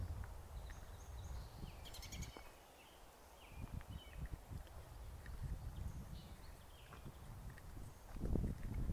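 Birds chirp faintly outdoors in June in the Northern Hemisphere, in scattered, brief calls, with low rustling and soft thumping sounds and no one speaking.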